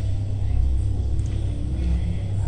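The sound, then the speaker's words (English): A dense, eerie street ambience saved as a sound-design preset of zombies on the street: a steady, heavy low rumble like traffic with a soft hiss layered over it, continuous and unbroken, with no one speaking. “Now remember, you can save that as a preset. Zombies on the street.”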